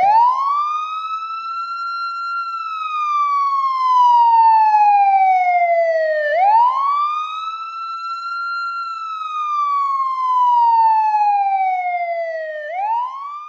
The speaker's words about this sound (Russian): Сирена выла, реанимобиль набирал скорость, и мартовская трасса бежала навстречу, мокрая, серая, бесконечная.